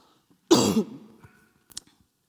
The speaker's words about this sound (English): Sorry, cough again.